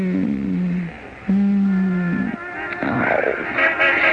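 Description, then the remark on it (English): Car horns honk in traffic at a stopped car that is blocking the road, two long steady blasts about a second each, fairly loud, followed by a jumble of busier street noise with fainter overlapping honks. “Can't you hear them blowing their horns? We're blocking traffic.”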